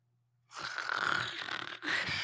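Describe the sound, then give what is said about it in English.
A loud, raspy snore made by a person's voice in imitation of Jesus sleeping in the boat: one long rattling inhale, a brief break, then a second snore starting up, with no talking. “Did Jesus snore?”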